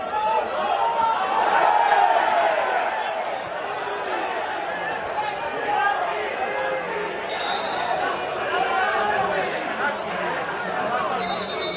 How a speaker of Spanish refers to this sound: Esto es lo que se oye, en principio, que si gol, que si tal, que si susto, el silbato del árbitro diciendo ¡ey, ey, ey! Para todo.